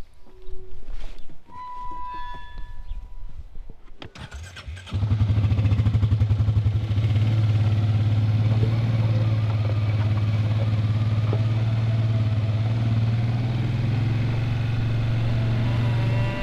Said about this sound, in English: Well, we are going to hop on your quad bike and head out onto the farm.